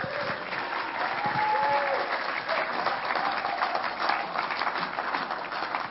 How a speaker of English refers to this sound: Thank you, champions. Thank you very much for your help. Give them a big hand.